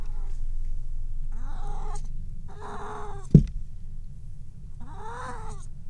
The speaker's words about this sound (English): Yeah, that's my kitty.